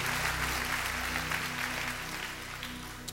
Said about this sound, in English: Can everybody give the Lord a praise clap for that?